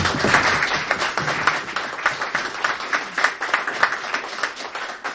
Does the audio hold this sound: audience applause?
yes